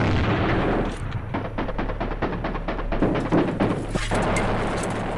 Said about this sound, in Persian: توپخانه سنگین دشمن به طور متناوب کار می‌کرد و خمپاره‌های 60, 80 و 120 میلیمتری در فاصله‌های زمانی بسیار اندک بر روی تپه منفجر می‌شد.